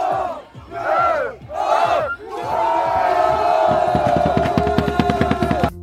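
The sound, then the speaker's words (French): A crowd of football supporters from Sartrouville, dressed in red outfits and masks, chants in loud, rising bursts to encourage their team, then settles into a sustained group shout as steady, rhythmic drum beats pound beneath it. “un groupe d'individus non identifiés, vêtus d'un ensemble rouge et d'un masque, suivi de quelques tambours”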